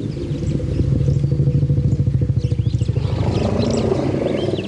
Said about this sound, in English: According to new data published on Monday in the Journal of Nature, Ecology, and Evolution, scientists discovered this by studying the sounds of elephants in Kenya and tracking how their trunked friends would respond. Take a listen.